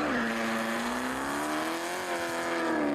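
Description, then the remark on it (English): A big, fancy car hooning with a loud, sustained tire squeal, a steady wailing pitch that dips and rises slightly for the full three seconds, with engine noise underneath and no talking. “Now, if you doubt what I'm saying, here is, again, the sound of the hooning. Now, of course, this is a car, right?”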